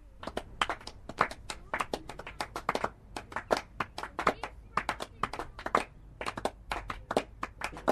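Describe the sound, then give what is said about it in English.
Thin, scattered applause from a small outdoor crowd at a cricket match in North County Dublin, individual claps landing irregularly for several seconds, moderately loud, with no one speaking over it. “There is applause for every scoring shot, and sometimes there is applause when a run hasn't been scored.”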